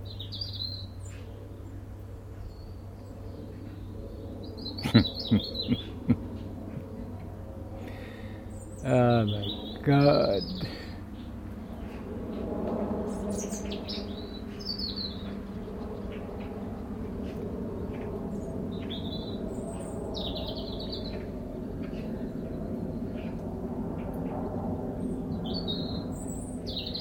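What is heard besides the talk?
birds whistling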